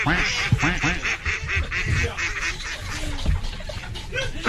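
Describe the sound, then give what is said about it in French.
A dense chorus of duck quacking sound effects played from a machine, many loud overlapping calls in quick succession, continuous throughout with no pauses. “Mais mon canard, il est où?”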